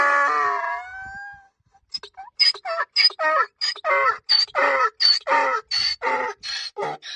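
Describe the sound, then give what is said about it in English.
A goat, in a recording found on YouTube, bleats with a long, wavering, falling cry, then a brief pause and a rapid run of about a dozen short, loud, nasal bleats in a steady rhythm. No talking. “What a way to kick off the goat segment.”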